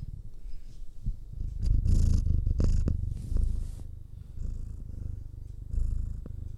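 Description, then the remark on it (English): A cat named Ripley purrs steadily, a low rumbling vibration that swells and eases with each breath, punctuated by a few soft rustling bursts from movement. “Purring cat.”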